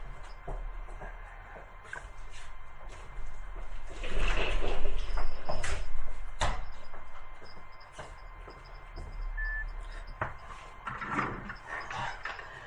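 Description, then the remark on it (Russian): Movement and shuffling, then a door swings and is pushed shut with a couple of sharp knocks and clicks, with no one speaking. “Одну секунду, я только закрою дверь, чтобы другим не мешать.”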